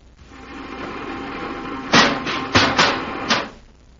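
A repeller ray weapon fires at two Zargs among trees and grass: over a steady low hum, five harsh crackling bursts blast out in a quick, uneven volley, then fade away. No one speaks.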